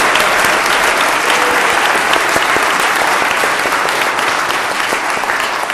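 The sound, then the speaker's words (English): A crowd claps steadily and loudly for baby Jesus at a Christmas celebration for several seconds, a dense, continuous patter of many hands with no voices standing out. “We need to clap stronger, okay? Let's clap for baby Jesus.”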